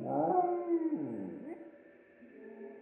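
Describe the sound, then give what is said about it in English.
A small black Pomeranian dog, Albert, whimpers in a drawn-out, whiny cry whose pitch slides up and down over a few seconds, fairly loud, with no talking. “Being a slightly pampered black Pomeranian, Albert was normally a little yappy, but when Victor saw him, he whimpered.”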